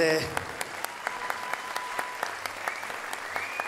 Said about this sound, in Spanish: Gracias por ese mediocre intento de aplauso.